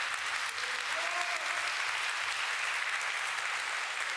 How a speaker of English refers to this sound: Carlos, you killed it. Let's give Carlos a hand today.